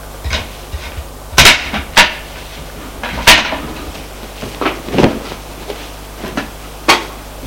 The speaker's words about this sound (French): Va à son bureau. Met la chaise en place.